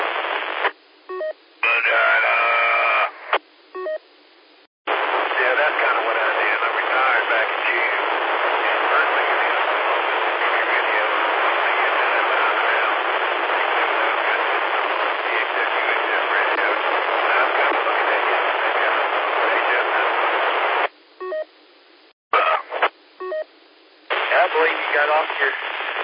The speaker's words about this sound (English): With your radio, it was coming in really good. It's not doing too well right now. A lot of static on it. Can't hardly make out.